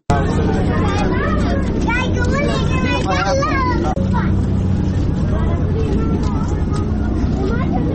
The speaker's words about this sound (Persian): با صدای آبهای جاری در کوچه و جاده های کابل آغاز می شود.